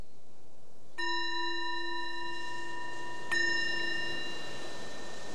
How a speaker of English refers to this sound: So the bell invites us to bring the awareness back to the surface again, awareness of your surroundings, and maybe just noticing whatever your experience was during that.